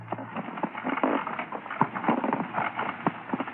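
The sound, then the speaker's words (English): Hooves clip-clop steadily as a donkey cart rolls along on the outskirts of the village of Kinreach, Scotland, a busy rhythm of hollow knocks over a rough, rumbling wheel noise, moderately loud, with no voices. “The driver of a donkey cart has given him a lift, and he's now on the last leg of the journey, the outskirts of the village of Kinreach.”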